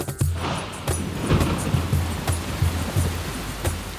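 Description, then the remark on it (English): Rain begins to fall and hisses down steadily in a continuous wash of noise, scattered sharper patters breaking through, with a low rhythmic rumble pulsing underneath throughout. “The bow arrived just as it began to rain.”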